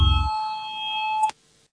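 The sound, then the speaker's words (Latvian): A parliamentary voting bell signal: a steady electronic bell tone rings with sustained harmonic pitches for just over a second, calling a vote, then cuts off abruptly with a brief click, leaving faint residual hum; no talking. “Lūdzu, zvanu, balsosim par trešo saimnes juridiskā biroja priekšlikumu.”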